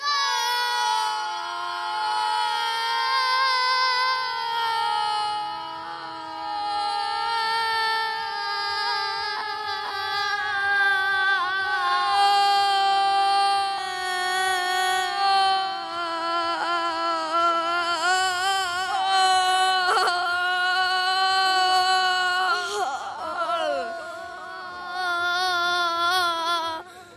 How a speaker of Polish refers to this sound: Na 3-4 wszyscy na jednym oddechu krzyczycie najgłośniej, jak potraficie, gol, no i kto najdłużej będzie krzyczał, ten wygrywa naszą zabawę, tak?